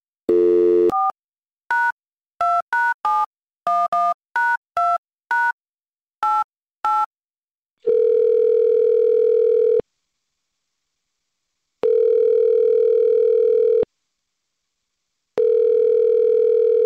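A quick run of touch-tone dialing beeps, then the steady ringback of an outgoing call placed by the Morning Mix on Mix 96.5 radio station: three long, clear rings separated by pauses of silence, with no one speaking.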